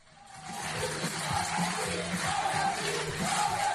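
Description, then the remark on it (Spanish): A large stadium crowd at the Estadio Balear roars continuously at the end of a match, with rhythmic group chanting of "Athletic, Athletic" rising over broad applause for the players. The crowd fades in quickly and stays loud and dense throughout. “A los jugadores, aplausos y gritos de Athletic, Athletic.”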